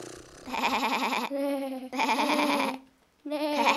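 Three loud sheep bleats in a row, each a wavering, quivering cry with brief pauses between them and no voices.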